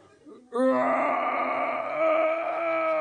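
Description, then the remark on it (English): A voice imitates a bear's roar while giving birth: one long, strained, moaning wail that starts abruptly and holds loud and steady for about two and a half seconds. “Pushing in, we hear the roars of a bear giving birth.”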